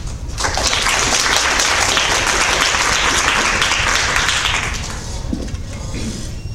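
An audience bursts into steady applause, a dense wash of many hands clapping that fills the room for several seconds before tapering off near the end.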